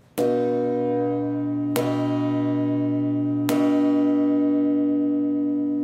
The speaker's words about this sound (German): Ja, dann gehen wir mal auf den Nordturm der Lorenzkirche. kommen da unter den Glocken durch. Ich lasse Ihnen mal den Ton hören von unserer tiefsten und schwersten Glocke, der Christusglocke hier in St. Lorenz im Nordturm.